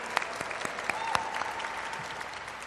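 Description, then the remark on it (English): A crowd at a Juneteenth celebration in San Francisco claps in a steady, dense patter of many hands, with sharper individual claps popping out above the continuous wash of applause. “Now, let's all give another round of applause for standing together in unity for today's Juneteenth celebration.”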